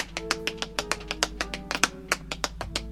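Quick, crisp tap-dance steps clatter in a lively, uneven rhythm, with about twenty sharp heel and toe strikes packed into a few seconds, with no voices.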